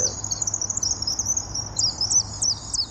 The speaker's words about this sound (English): They've got the bird poop and one other trick that might bring them in. A recording of swift calls played through a loudspeaker. We have half a dozen tracks, and let's turn up the sound.